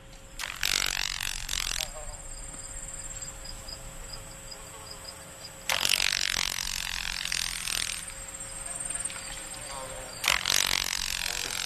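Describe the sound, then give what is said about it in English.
A Carolina grasshopper, a shorthorn grasshopper, stridulating: three dry, raspy buzzing bursts, each roughly a second long and separated by several seconds, over a faint steady background hum. “Shorthorn, because it's got an interesting sound, and I know you have a piece of sound of the Carolina grasshopper on your CD, and I think we've got that sound.”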